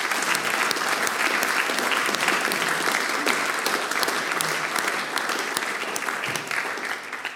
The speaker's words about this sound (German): Ich glaube, das ist einmal ein Applaus für den Ewald wert.